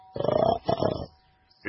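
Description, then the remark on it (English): A voice imitates a pig with two loud, rough grunts in quick succession, close to the microphone, followed by a short pause before another voice begins. “The pig knocked on the door and grunted.”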